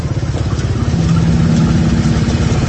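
Steady, loud low rumble of idling vehicle engines in a long traffic jam queue in the oil palm area of Cikalong Wetan, a continuous throbbing drone with no pauses and no voices.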